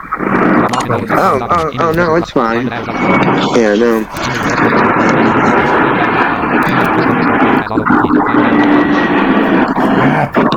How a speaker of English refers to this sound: These airplanes are so loud.